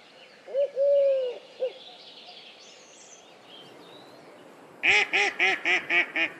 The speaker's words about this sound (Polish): Kaczka. Znów jest to tylko określenie rodziny czy rodzaju, a gdy mówimy o niej, mamy na myśli krzyżówkę. To ta, którą można spotkać na różnych zbiornikach wodnych, mniejszych, większych, dzikich lub mniej dzikich, w parkach, właśnie w oczkach wodnych